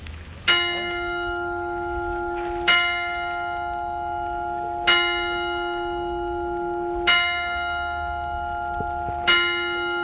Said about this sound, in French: Le temps passe vite à Chambord, il est 5 heures au carillon de l'église paroissiale du petit village, à l'ombre du château